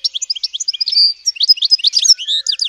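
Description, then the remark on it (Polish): A European goldfinch sings a rapid, tinkling stream of high twittering notes and short trills, bright and continuous with no voices over it. “Dzwoniec oliwkowo-zielony szczygieł jest bardziej kolorowy, a to, co się u niego rzuca w oczy, przede wszystkim to jest taka czerwona maska.”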